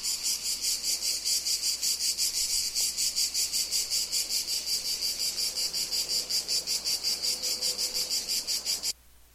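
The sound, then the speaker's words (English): A single cicada in Frascati, Italy, buzzes loudly in a steady, pulsing drone with a rapid rhythmic throb, continuing without pause until it cuts off abruptly near the end. “In Frascati, Italy, there's one cicada.”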